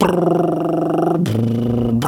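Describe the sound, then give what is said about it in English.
A person vocally imitates a guinea pig's flirting rumble: a low, buzzing, purring drone for about two seconds that drops slightly lower in pitch partway through, loud and steady. “My girls now have these guinea pigs, noisy little things, especially when they're flirting. They make this noise.”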